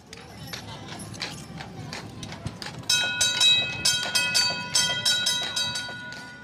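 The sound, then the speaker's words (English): Disneyland horses' hooves clip-clop in a steady, even rhythm on Main Street, USA in Disneyland Park, pulling trolley cars full of park guests, with a low rolling rumble underneath and a sustained ringing tone joining halfway through as the hoofbeats grow louder. “That's the sound heard on Main Street, USA all day long, as the Disneyland horses clip-clop along, pulling trolley cars full of park guests.”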